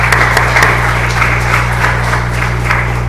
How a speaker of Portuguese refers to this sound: E né, uma salva de palmas aí para os vereadores.